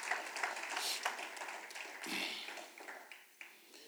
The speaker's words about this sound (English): If you're going to clap, give them a strong clap.